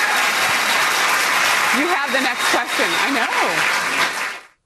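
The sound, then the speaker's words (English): Loud, steady audience applause fills the whole stretch, a dense wash of clapping, while a voice speaks over it midway through before the clapping cuts off at the end. “So that, you hear the applause on that one.”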